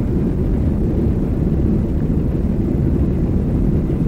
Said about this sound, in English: Well, we're at the end of the runway now. Just about ready to take off, I would think. There the engines go. The roar of the engines can be heard. We're moving very fast, picking up speed now.